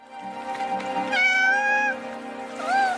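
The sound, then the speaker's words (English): A cat meows twice, clear: first a long, drawn-out meow, then a shorter rising one, over a soft, steady background drone with no talking, in a Latvian animated film without dialogue. “Flow is an ingenious animation featuring a cat battling catastrophe who learns to rely on others.”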